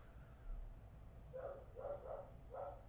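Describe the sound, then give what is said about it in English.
A female dog lets out four short, muffled barks in quick succession over a low background rumble, barking at a doorbell that just rang while staying where she sits, with no one talking. “Well, this means she's going to just sit where she is and just bark.”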